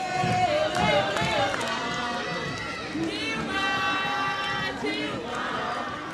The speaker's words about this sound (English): On one narrow street in one poor district of this huge city, the crowd cried out for Dilma Rousseff.